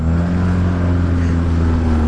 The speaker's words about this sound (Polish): Znajdujemy się na rzece Chipiriri. Słychać doskonale odgłos silnika.